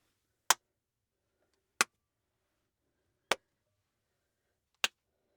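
Four sharp hand claps ring out one at a time in a professionally treated home studio, recorded with a Shure KSM microphone through a Claret 2-Pre USB interface, spaced evenly about every second and a half, each crisp and bright with quiet silence between them and no talking.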